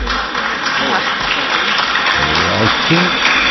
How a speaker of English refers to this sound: I think the applause means they agree. Thank you, ladies and gentlemen.